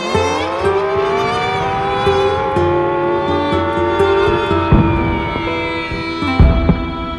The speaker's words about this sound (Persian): توجه توجه، علامتی که همکنون میشنوید اعلام خطر یا وضعیت قرمز است و معنی و مفهوم آن این است که حمله هوایی انجام خواهد شد. محل کار خود را ترک و به پناهگاه بروید.